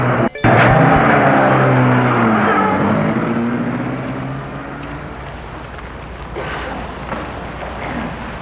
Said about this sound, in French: Voiture est partie.